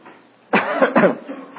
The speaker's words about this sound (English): Let's all cough together and it'll be over. Good, that was a good one. Don't practice, just cough if you have to.